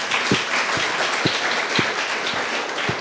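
An audience breaks into sustained applause for a man, a dense wash of many hands clapping at steady volume throughout, with a few louder individual claps standing out at irregular intervals.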